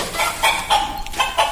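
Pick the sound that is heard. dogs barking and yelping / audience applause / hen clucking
hen clucking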